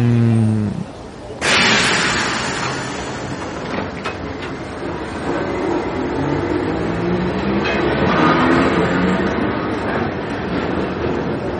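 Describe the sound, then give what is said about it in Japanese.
A train rumbles into a station, a broad steady roar with a sharp hiss of brakes or doors early on, lasting throughout. “ほら、電車来たよ。”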